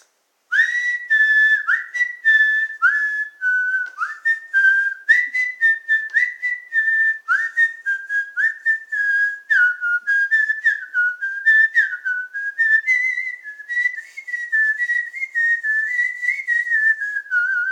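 A person whistles a melody, a continuous stream of clear, bright tones sliding between pitches with short breaks, fairly loud, with no talking for nearly eighteen seconds.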